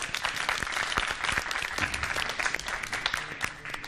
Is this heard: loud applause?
yes